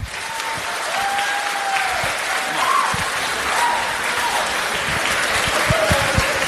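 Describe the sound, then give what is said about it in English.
A crowd at the St. Bartholomew School general election hustings claps steadily and fairly loudly for several seconds, a dense patter of many hands, with faint whoops and voices calling out over it. “Big round of applause, let's have it.”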